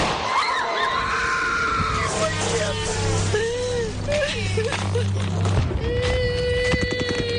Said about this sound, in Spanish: Estás escuchando los primeros bombardeos de Ucrania, los primeros gritos, los primeros llantos de niños, bebés, mujeres y hombres.